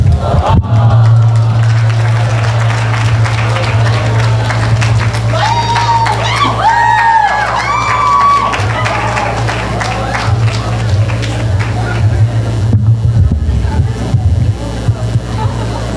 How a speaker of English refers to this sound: Let's get another loud round of applause for everybody who's been performing up till now, please.